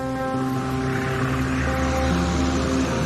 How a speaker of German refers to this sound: Das Boot nähert sich dem Ufer.